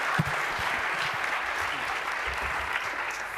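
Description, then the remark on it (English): A crowd in Hamburg claps steadily in dense, continuous applause welcoming a speaker about to talk on the Hamburg transparency law, a sustained hiss of many hands at an even loudness from start to finish, with no voices over it. “Please welcome him with a huge round of warm applause, and the stage is yours.”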